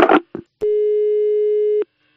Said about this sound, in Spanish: ¿Algún cruce de cables? Porque aquí me suena el teléfono y yo lo descuelgo.